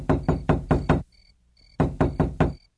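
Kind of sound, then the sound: household object, knocking on a door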